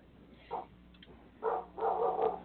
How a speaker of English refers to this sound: I have to go chase that dog. I'll be back. Okay, yeah, we've got a dog out there. What the hell is that about?